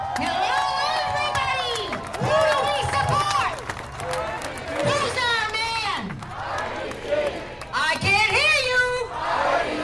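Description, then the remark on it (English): A large, boisterous crowd holding signs in a roped-off area at a shopping plaza cheers and shouts, many voices overlapping in a loud, continuous roar that swells and surges throughout, energetic. “You'd see a boisterous crowd holding signs showing a bald white man and the words, "Our Leader."”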